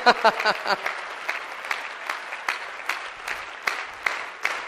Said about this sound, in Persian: مرسی مرسی، خودتون تشویق کنین